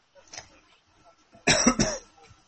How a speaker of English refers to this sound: Coughing on your sofa?